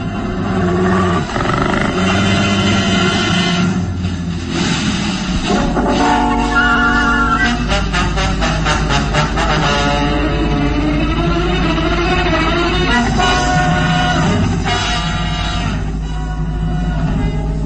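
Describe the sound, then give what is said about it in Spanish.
A fierce animal growls and roars loudly and continuously, with deep rumbling snarls and harsh, throaty bursts that rise and fall over a dense, noisy background. “El gruñido es impresionante y los filosos colmillos están insertados en un hocico babeante.”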